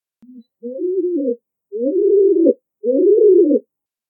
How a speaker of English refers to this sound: Pigeon. The pigeon coos day and night.